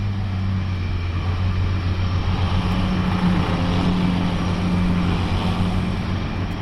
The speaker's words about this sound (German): Der Motor startet und kurz darauf hebt das Flugzeug ab. Mit der ganzen Technik.